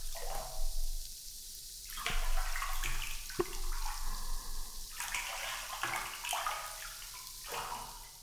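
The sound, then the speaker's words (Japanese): Steady running water splashing as it rinses shampoo foam off a person's hair, with irregular surges and splatters as the stream moves over the head, punctuated by a few brief sharp clicks; no voices. “泡をしっかりと洗い落とせましたので、頭皮のマッサージに移っていきます。”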